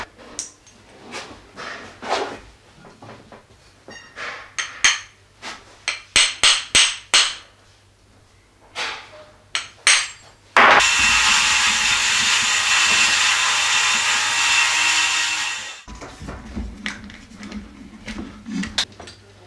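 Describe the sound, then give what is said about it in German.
Sharp metallic taps and scrapes ring out in quick irregular bursts, then a loud steady hissing grind runs for about five seconds before more scattered clinks and scraping resume, as a freshly cast metal casting is deburred with hand tools so it can be machined further on a lathe. “Jetzt ist der Grat entfernt und es kann weiter bearbeitet an der Drehbank werden.”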